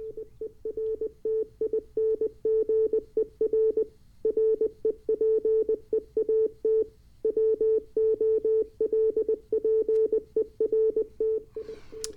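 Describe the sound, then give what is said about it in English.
A steady single-pitched tone keyed on and off in quick dots and dashes, Morse code sent over a radio, moderately loud above a low hiss with brief pauses between bursts. “And maybe we should be able to hear some Morse code. And yes, we do, but it sounds like we need some more gain.”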